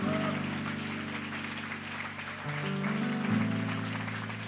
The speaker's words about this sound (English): And could you clap your hands for the Lord Jesus Christ this morning?